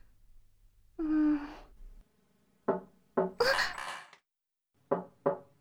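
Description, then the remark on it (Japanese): A short breathy vocal sigh, then sharp knocking on a door in two bursts of about three raps each, close and fairly loud, with brief quiet between them. “ちょっと待って、今ドアを開けるから。”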